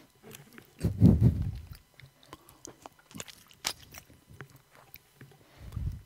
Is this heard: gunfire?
no